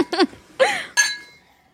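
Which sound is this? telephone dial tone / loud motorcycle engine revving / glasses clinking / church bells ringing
glasses clinking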